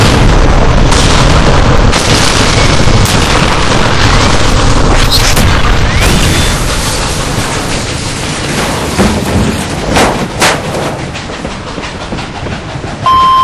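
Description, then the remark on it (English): A helicopter, its spinning rotor struck by a flame-spitting tube, crashes onto the railway and explodes in a long, loud roar of rumbling and metallic rattling, with sharp bursts cutting through midway before the din slowly thins out. “I thank you all for saving this codger's life, but that last helicopter crashed on the rail.”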